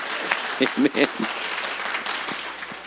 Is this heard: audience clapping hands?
yes